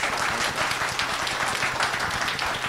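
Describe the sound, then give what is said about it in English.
An audience applauds to vote for discussing Planned Parenthood, a dense wash of many hands clapping at once, fairly loud and sustained throughout with no voices breaking through. “How many people would like to discuss Planned Parenthood, applaud.”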